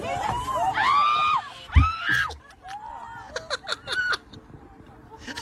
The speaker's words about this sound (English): if you want to hear the screams of all these passengers